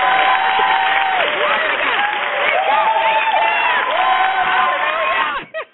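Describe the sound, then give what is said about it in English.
An audience claps and cheers, celebrating eight years, in a steady, dense wash of applause, with high whoops and excited shouting voices mixed throughout, before it cuts off abruptly. “Let's applause.”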